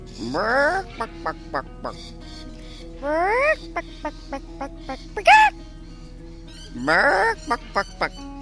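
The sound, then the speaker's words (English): A person's voice imitates a chicken saying hello, three rounds of rising squawks each followed by a quick series of short, clipped clucks, fairly loud. “Say hello to me in a bit of chicken.”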